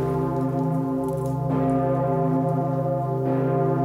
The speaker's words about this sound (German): Für alle läutet die Pommerin, so heißt die große alte Glocke im Nordturm des Stephansdoms. Sie läutet nur zu ganz besonderen Anlässen, und das ist so einer.